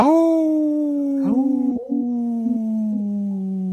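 A single long wolf howl, a steady mournful tone that slowly falls in pitch over several seconds with slight wavering breaks, heard clearly and alone without any talking.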